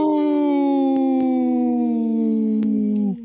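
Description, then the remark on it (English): A person imitates a wolf howl, one long sustained wavering note that slowly slides downward in pitch for about three seconds before cutting off, loud. “Howling for Wolves, protecting wolves for future generations. Howl!”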